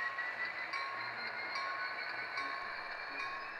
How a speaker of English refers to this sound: running model trains with the Thunderbird Model Railroad Club.